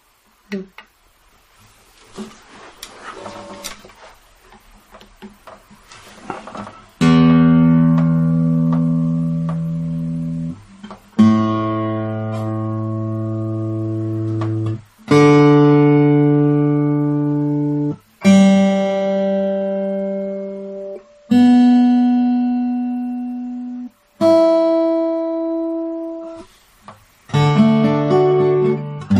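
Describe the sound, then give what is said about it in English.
After a few soft taps and clicks, an instrument is tuned with a run of loud, sustained ringing notes, each held for a few seconds before fading, the pitches shifting slightly from note to note. “So I'm going to mute the mic while I tune, so y'all don't have to listen through that.”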